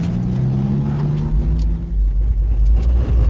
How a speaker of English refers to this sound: cuts quite a figure in his ancient truck, slowly winding through the streets of Canarsie, making his deliveries. My top speed will be about 15, that's it.